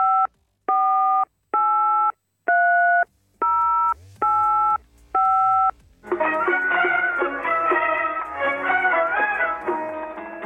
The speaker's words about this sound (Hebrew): עכשיו אנחנו מחייגים בעצם לאחד מהמפגינים, הוא זה שבעצם הביא את האריה, אליו אנחנו מחייגים ממש ממש עכשיו בשידור חי, טלפון לעיראק, כאן מהאולפנים בבני ברק.